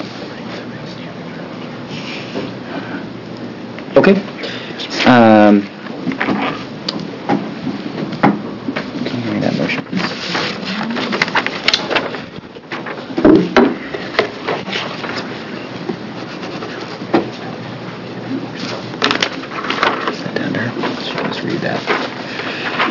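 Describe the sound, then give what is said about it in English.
Papers rustle and shuffle, with soft scrapes and occasional sharper clicks scattered over about twenty seconds, a voice briefly speaking once amid the handling noise; a committee chair shuffling papers between legislative work sessions on House Bills. “And as I shuffle through my papers here.”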